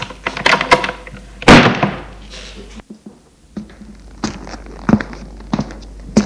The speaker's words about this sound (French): Il ferme la porte.